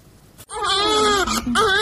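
A baby in Iran cries loudly on its own, a sustained, high-pitched wail that wavers in pitch, broken by a couple of quick catches of breath before resuming.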